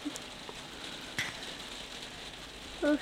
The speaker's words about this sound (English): With rain out here.